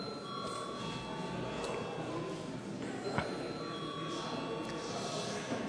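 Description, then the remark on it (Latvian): A parliament voting bell, rung to call a vote on changes to the agenda, rings steadily for several seconds, a sustained metallic tone with bright overtones, over a low murmur of background noise and a single sharp click partway through. “Deputāti iebilst, līdz ar to ir vajadzīgs balsojums. Lūdzu zvanu.”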